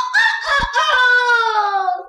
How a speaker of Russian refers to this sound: Ты слышишь, жена? Чей это петух заливается у нас во дворе? В нашем маленьком испанском городке нет таких горластых петухов.